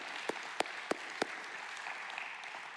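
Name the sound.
audience applause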